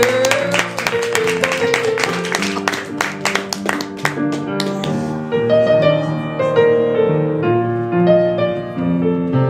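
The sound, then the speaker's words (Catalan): A burst of loud, dense clapping over a bright musical backdrop for about five seconds, applauding contestants in a song-guessing contest, then the applause stops and the music carries on alone. “fort aplaudiment per Laila i per la Neus”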